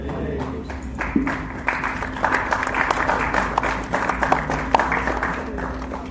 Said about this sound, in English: Let's give Maharaj a nice round of applause there for showing our sincere appreciation for Maharaj's wonderful talk here today, inspiring all of us in Krishna consciousness